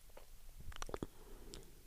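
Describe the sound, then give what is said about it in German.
A wet swallow with a few sticky mouth clicks and smacks clustered together, then a softer gulp-like sound shortly after, quiet with no talking. “oh mein Gott, ich kann nicht mehr reden. Runterschlucken.”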